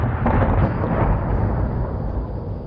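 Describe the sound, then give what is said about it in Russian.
Deep, rolling booms of distant explosions from excavation work on the other side of a bay, about 1 kilometre away, merge into a continuous, muffled rumble that holds steady for a few seconds, heavy in the low end, with no voices present. “В это время на другой стороне бухты послышались взрывы.”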